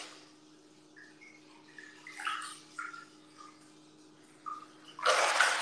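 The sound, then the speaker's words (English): Water splashes and sloshes in an onsen, a Japanese hot spring bath, with a few gentle ripples and drips, then a louder rush of pouring or splashing water near the end, with no one talking. “How many toys do you have in the water? None, it's an onsen.”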